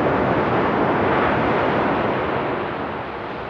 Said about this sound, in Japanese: とても穏やかでゆったりとしたこの波は、いいことも悪いこともすべて受け入れている、そんな音にさえ聞こえます。